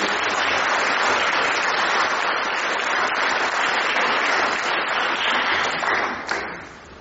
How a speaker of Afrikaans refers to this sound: En ek wil net as almal van julle net saam vir my hande klap kan gee vir almal wat saam werk.